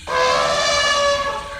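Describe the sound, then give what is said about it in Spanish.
A single loud, brassy elephant trumpet blares for under two seconds, a sustained tone rich in harmonics that holds steady, then fades slightly at the end. No voices are heard. “¡Ah! ¡Un elefante!”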